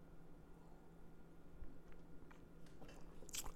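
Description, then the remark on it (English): A quiet sip of Rowan's Creek bourbon: faint wet mouth sounds and a soft slurp, with a few smacking clicks toward the end over low hum, no talking. “That is my final sip and my final thought for the day.”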